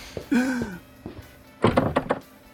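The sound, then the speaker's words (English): In an escape room, a door creaks shut with a heavy thunk, followed by a quick cluster of metallic clacks and rattles as the lock is worked, fairly loud. “And here's another door locked behind us.”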